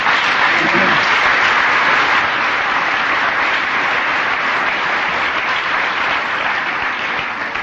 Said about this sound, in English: You're applauding AA and Al-Anon.